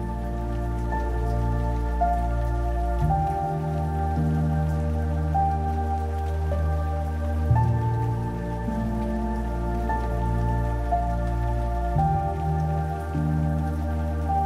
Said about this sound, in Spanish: Y sientes las gotas de agua cayendo sobre tu rostro.